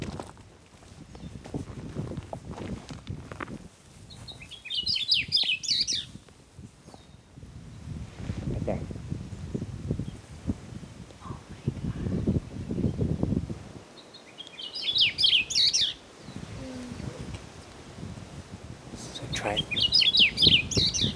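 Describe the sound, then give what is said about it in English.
Akeopola bird song: three short bursts of high, bright twittering spaced several seconds apart, heard over steady low crunching footsteps on gravel as people hurry down a gravel path with binoculars. “The bird song is like a little signature, spelling out Akeopola owl in cursive.”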